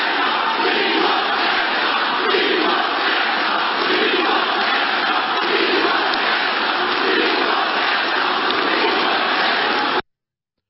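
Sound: rally crowd chanting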